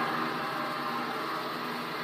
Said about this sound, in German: Und dafür haben wir drei Gesteinssägen. Mhm. Ja, und das hört sich dann so an, wenn die Säge dann läuft. Das ist laut. Das ist jetzt die Säge im Leerlauf.